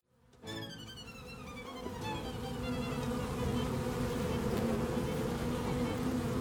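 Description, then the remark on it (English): A dense, steady drone of many bees buzzing together in a hive with the queen present, starting abruptly and swelling slightly louder, continuous with a thick low hum and shimmering overtones. “I think I hear some bees there. Is that some bees in the background?”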